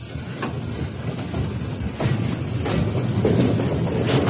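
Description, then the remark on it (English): An old train rumbles along, creaking and clanking with a steady chugging rhythm and occasional sharp metallic knocks, growing slightly louder toward the end, with no voices. “That old train dragging him on to hell, creaking and clanking and chugging its way through that darkening night.”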